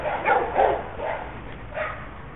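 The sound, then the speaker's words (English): A dog barks four times in an uneven rhythm in a neighborhood near TSU, close to the speaker's house, the first two close together, then two more spaced out, moderately loud over a steady low background hiss with no one talking. “Alright, that the sound of dog barking means we're almost near my house.”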